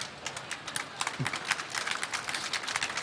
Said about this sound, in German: Da kommt Applaus.